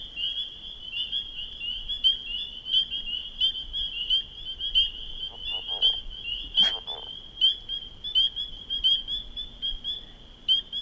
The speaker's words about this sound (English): You hear louder peeps. Oh, and there was a leopard frog again, but louder peeps is individual peepers giving a nice clear single note.